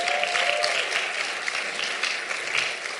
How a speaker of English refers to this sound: And give yourself a round of applause celebrating 9 years here at Legacy.